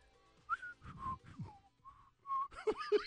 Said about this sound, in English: You heard my whistle.